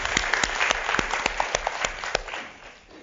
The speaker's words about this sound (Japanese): Let's give him a hand of encouragement. 頑張って。 頑張ってねの拍手をしたいと思います。